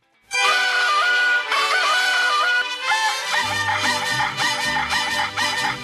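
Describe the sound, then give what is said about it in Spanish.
A loud rooster crows in one long, drawn-out call, then a bright musical tune with deep bass joins in and carries on for several seconds. “¡Ahí está el gallo! ¡Gallo! ¡Gritón!”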